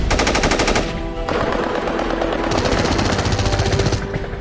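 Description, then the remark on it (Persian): Loud, rapid machine-gun fire crackles in two long sustained bursts, separated by a stretch of dense rumbling battle noise, with no letup in the din of heavy combat, as Shalamcheh lies under heavy enemy fire during Operation Karbala 5. “شلمچه زیر آتیش سنگین دشمن بود.”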